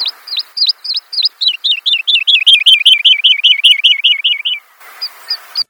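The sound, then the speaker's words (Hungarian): A lark sings in undulating flight: a run of clear, sweet whistled notes that quickens into a long, rapid rolling trill, then breaks off into a few scattered faint notes. No one speaks. “Ez szintén reptében énekel, viszont ilyen hullámzó röptű madár, és nagyon érdekes.”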